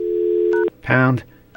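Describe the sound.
A steady telephone dial tone hums for a moment, then a short keypad beep cuts in before it stops abruptly, followed by a brief burst of a voice.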